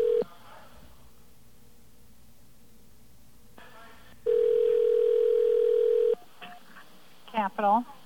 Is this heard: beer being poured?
no